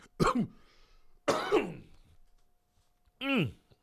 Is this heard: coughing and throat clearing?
yes